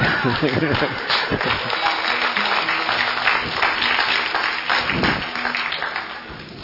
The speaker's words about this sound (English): You're going to have to clap with more enthusiasm than that to convince me.